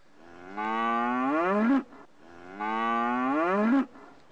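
A cow moos twice in a row, each call long and loud, a low drawn-out bellow that rises slightly before breaking off, separated by a brief pause.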